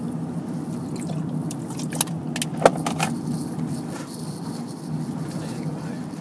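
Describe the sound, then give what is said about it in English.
Steady low road rumble fills a car cabin while driving at about 60 km/h, with a few brief metallic jingles and clicks, like keys rattling, popping up near the middle. “Probably about 60Ks I've been driving.”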